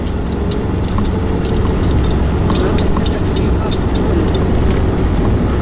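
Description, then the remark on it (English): A single heavy truck engine rumbles steadily, with scattered metallic clanks and knocks over the continuous drone, as though it is idling or working in place. “One truck. Looks like they're getting something. Or they're filling something.”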